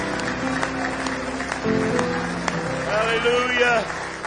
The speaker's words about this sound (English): Give him a hand clap of praise in the house of the Lord tonight.